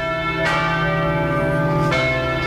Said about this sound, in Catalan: Mira, mira, Goita, tenim campanes, jo, escolta'm, ja sento campana. És el monestir de Montserrat, les campanes, sí.